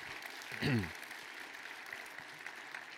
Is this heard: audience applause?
yes